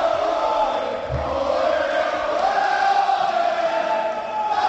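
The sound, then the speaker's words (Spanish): The crowd at El Molinón (Estadio Enrique Castro Quini) celebrating Huesca as Segunda División champions, with the whole Huesca squad shouting as the trophy is handed to captain Pulido: a dense, unbroken roar of many voices, with cheering and chanting rising and falling slightly but staying loud from start to finish. “De esta forma suena el Molinón, el Huesca campeón de segunda.”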